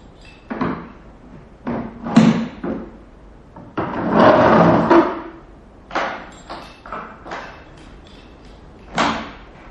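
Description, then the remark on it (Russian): Clattering handling sounds of a woman unlocking and opening a door in the evening at a house near Florence: several sharp clicks and knocks of a bolt or latch, a longer scraping rattle in the middle, then a few more thuds. “Вирджиния поднимается и отпирает дверь.”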